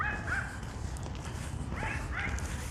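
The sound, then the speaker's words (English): A small dog behind a fence, its muzzle sticking through, yaps in short, high-pitched barks, a few scattered across a couple of seconds, over a steady low background rumble. “I can see his little muzzle sticking through the fence. Bark, bark, bark.”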